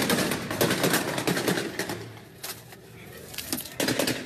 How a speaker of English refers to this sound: There's a shot fired from inside one of the businesses on the corner, and then a barrage of gunfire from law enforcement.